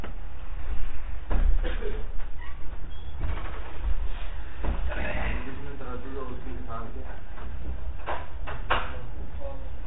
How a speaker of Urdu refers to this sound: بھئی یہ دروازے کھولو تو.